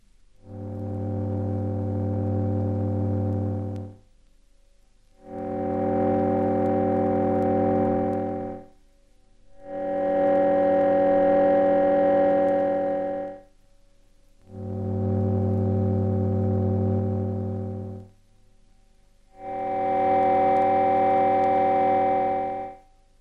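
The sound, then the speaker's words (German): Five steady, electronically synthesized tone mixtures whose partials match the composition of a bell sound, each held about four seconds with brief silences between. The mixture and pitch stay the same; only the loudness of the partials changes, so the brightness shifts from one variant to the next. “Sie hören jetzt ein solches Tongemisch, das in diesem Fall genau der Zusammensetzung eines Glockenklangs entspricht, und zwar in 5 Varianten.”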